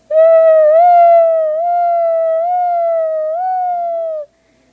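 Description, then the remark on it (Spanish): A loud emergency vehicle siren sounds a steady, bright tone with a few slight upward pitch shifts, holding for about four seconds before cutting off abruptly. “Katy y David iban en camino a la tienda cuando oyeron sirenas.”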